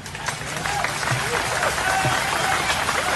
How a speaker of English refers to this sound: And you can hear the applause from people who were at the ceremony yesterday.